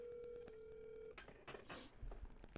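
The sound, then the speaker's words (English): A quiet outgoing phone call ringing through a phone's small, low-volume speakerphone: one steady, tinny ringback tone lasting about a second, then it stops and soft rustling and background noise follow. “Dude, is that all the louder your phone gets?”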